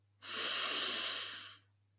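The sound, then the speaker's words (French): A single long, deep inhalation during a breathing exercise, a steady airy rush lasting about a second and a half before fading out, with no talking. “Et on inspire de nouveau.”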